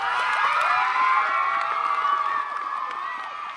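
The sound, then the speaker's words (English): Cheerleaders cheer loudly at a Universal Cheerleaders Association camp in Los Angeles, a dense chorus of high, shouting voices overlapping in a sustained, ringing wall of sound that holds steady before easing slightly toward the end. “The first thing you should know about cheerleading camp, it's really, really loud.”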